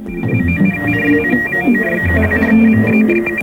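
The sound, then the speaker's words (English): Radio music plays steadily, with two thin, high-pitched whistling interference tones held constantly above it, interfering with the melody and bass throughout. “Now, by playing with two controls on the front, you can reduce and almost eliminate those two tones without affecting the music you're trying to listen to.”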